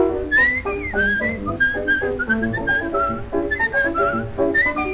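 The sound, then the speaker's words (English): A bright, trilling whistled melody in a song imitates a meadowlark's song, fluttering up and down over steady musical accompaniment for several seconds, clear, with no talking. “Every evening in the park, whistle dear, when it's dark. Like a meadowlark.”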